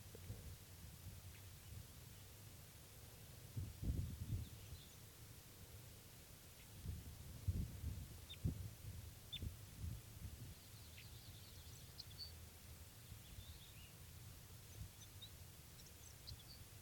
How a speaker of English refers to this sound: Recording him underneath that wild bird now, and he's just getting some soft song here.